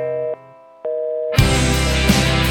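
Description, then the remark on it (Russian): A telephone busy-signal tone from calling a switched-off mobile phone beeps twice in steady on-off pulses, then loud, dense music abruptly bursts in and buries it. “Но твой мобильный, как всегда, отключен.”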